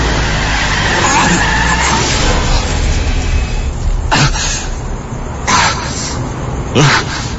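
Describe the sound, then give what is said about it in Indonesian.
A motorbike skids with a long, loud scraping roar as the startled rider loses control and falls onto the road, then crashes with three sharp, heavy impacts spaced about a second apart, with no voices. “Kaget aku pun tidak kontrol dan akhirnya terjatuh dari motor.”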